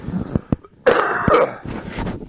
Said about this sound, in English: I've got a cough. Give me a second here.